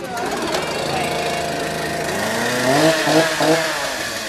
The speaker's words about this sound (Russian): только вместо ленточки перерезали пилой деревянный брусок.